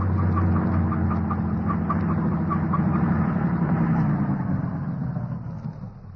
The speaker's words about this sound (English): The truck has no headlights on it, but it's going to pass right by us.